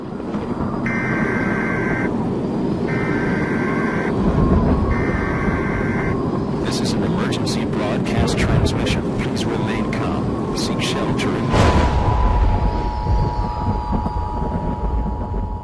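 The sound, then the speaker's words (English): Emergency Alert System attention tones, as aired by a station in Jacksonville, Florida in a promo for the Jacksonville Jaguars football team. Three short, identical bursts of harsh, buzzing digital data tones are followed by a sharp clicking stretch and then a steady, piercing electronic alert tone, all over a loud, rumbling, noisy background. “So why are these tones so protected? And how did we land on this tone in particular?”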